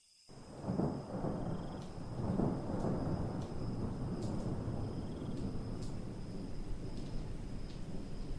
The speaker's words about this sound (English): It's raining. It's showering.